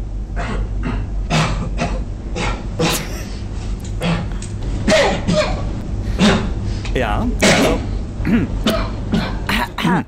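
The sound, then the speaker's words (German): A rapid run of coughs and throat-clearing bursts from two players using a secret cough code at the 2013 World Championship, spliced tightly so they fire off one after another with barely a pause, loud, with a brief spoken word near the start. “wie sie husten, jetzt hier ein bisschen hintereinander geschnitten, war eigentlich ein bisschen seltener, aber tatsächlich haben sie sich offenbar einen Hustcode ausgedacht”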